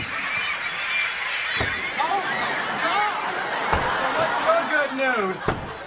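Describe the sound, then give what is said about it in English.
A crowd of birds squawking nonstop indoors, a dense, chaotic tangle of shrill squeals and honking cries, broken by a few sharp knocks. “Look, I'm really sorry about the birds, but I'm sure they'll leave as soon as they get hungry.”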